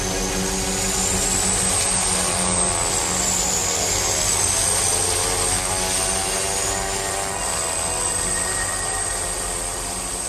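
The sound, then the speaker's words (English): A small propeller plane, packed with passengers and their pulks (sledges), drones loudly and steadily as it flies over the Arctic, its engine hum layered with a thin high whine that rises and falls slightly. “He's against your pulks, your sledges, which are all jammed into this little plane as well.”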